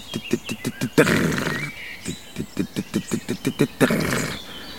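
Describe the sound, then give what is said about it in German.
A voice imitates a corn bunting's song: quick, evenly spaced ticking notes that speed up and end in a harsh, jangling hiss, given twice in a row, fairly loud. “Und spannend finde ich bei den Grauammern, dass die auch teilweise vom Boden aus oder sagen wir so nah am Boden auf einem Halm sitzend singen, dass man sie gar nicht sieht.”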